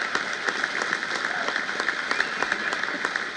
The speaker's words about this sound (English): The crowd of several thousand, mostly white elderly men, all in caps, was appreciative, with standing ovations all round.